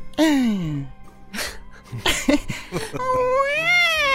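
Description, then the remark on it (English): A woman at the front door cries in high, wavering wails, the drawn-out sobs bending and sliding in pitch so they sound like a cat's meowing, with brief gasping breaths between. “She sounded like how my cat was supposed to sound.”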